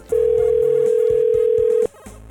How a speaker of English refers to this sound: I've tried like 4 times now. She's just not picking up. It's ringing 4 times.